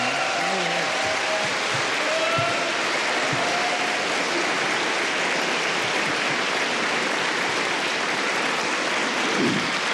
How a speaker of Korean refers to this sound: 나오실 때 큰 사랑과 격려 박수 할렐루야를 맞이해 주십시오.